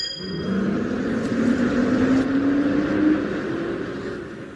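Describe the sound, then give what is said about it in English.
A bus engine drones, its low hum climbing steadily in pitch as the bus to Slaughterhill pulls away and gathers speed, with road rumble underneath and no voices. “Just get on this bus.”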